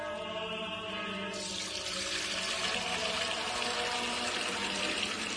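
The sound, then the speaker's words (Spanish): Fuente Umbría spring water pours steadily into a container, a continuous splashing rush that grows fuller and brighter after the first second, with a faint ringing hollow tone underneath. No one speaks. “Hermano Pedro, es que no nos quedaba agua bendita. Agua pura de manantial”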